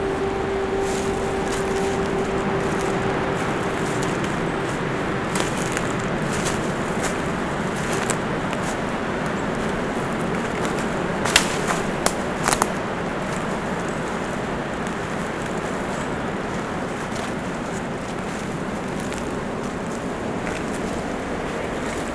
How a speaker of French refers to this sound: vous marchez entre les épineux, les feuillus. Et le bruit sourd du vent.